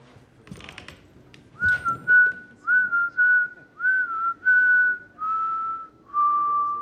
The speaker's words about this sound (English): All he does, he doesn't like, you know, lay into her. All he does is just start whistling that tune and then walks away.